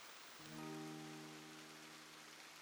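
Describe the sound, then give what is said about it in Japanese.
Steady, soft rain hisses evenly throughout, with a low sustained humming tone joining shortly after the start and holding underneath. No voices. “また雨。”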